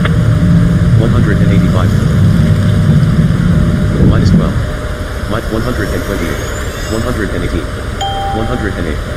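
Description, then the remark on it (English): A small propeller plane's engine drones loudly and steadily for a few seconds as it comes in to land, then drops away abruptly, leaving people talking over a quieter background. “I love this little plane.”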